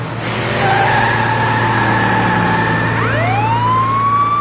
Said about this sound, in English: I'm going to do something a bit cheeky here. Let's get the car ready. Let's give it a bit of a rev. Let's overtake this tractor. Here we go.